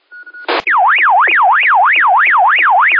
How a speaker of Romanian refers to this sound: Din Dacia, o alarmă, hai.